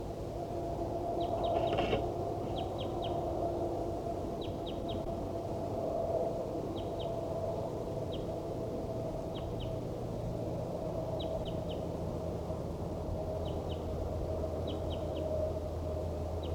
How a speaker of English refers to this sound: These are vocalizations of a wild bird. Band 4-7 responding.